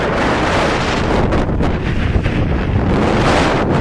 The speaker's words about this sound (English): But the waves are literally just feet below me. And I'm in danger of losing my glasses because this wind is just so strong. Some of the waves have broken up onto the pier, so I might just get a soaking later, but I bloody hope not.